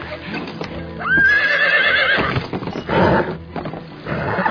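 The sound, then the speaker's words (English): A war horse aboard a ship lets out a loud, wavering whinny, with heavy hoof stamps and shuffling thuds around it before and after the neigh. “He's a ruthless war horse, not a poodle.”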